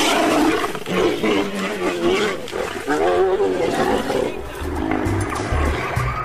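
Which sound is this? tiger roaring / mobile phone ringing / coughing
tiger roaring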